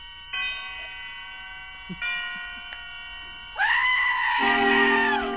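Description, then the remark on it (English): On the radio show Suspense, a sustained organ-like chord plays, then a loud, wavering goat bleat cuts in as someone tries to milk the goat, drawn out for nearly two seconds and dropping in pitch at the end. “It happens when you try to milk a goat.”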